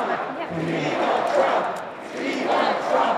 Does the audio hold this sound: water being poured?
no